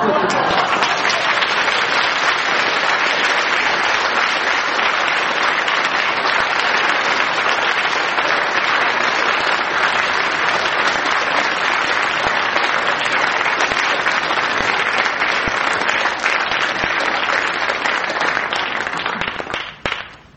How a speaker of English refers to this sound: By your applause, Frank Muir wins the contest of stories, and I get a quite unusable present.